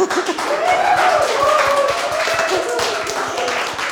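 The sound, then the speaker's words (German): A crowd applauds steadily for several seconds, a dense wash of many hands clapping at once, with scattered cheers and voices rising through it; an audience applauding a performance. “Es gibt großen Applaus aus dem Publikum für diese Darbietung, die keine einfache gewesen zu sein scheint.”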